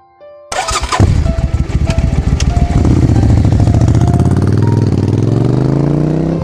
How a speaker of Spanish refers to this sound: Padre apresurado se montó en su moto y llegó pronto al colegio.